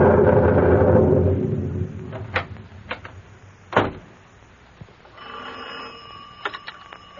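A telephone in a shack is rung up to call the substation to turn on power to a line wire: a few sharp clunks and clicks as the handset is worked, followed by a steady ringing tone with faint bell-like pings, with no one talking.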